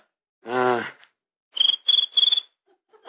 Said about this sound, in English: Just a little cricket. Some noise they get by rubbing their legs together. That one must be wearing corduroy pants.